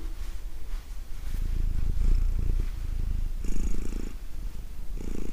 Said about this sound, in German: Jetzt schnurrt die Mieze. Da schnurrt sie. Ich kann euch ja mal kurz mal gucken, ob sie ins Gerät schnurrt. Mieze, schnurr mal. Na komm. Na komm hier. Lassen wir sie mal ein bisschen schnurren. Ja, man muss sie ja streicheln, wenn man sie schnurrt.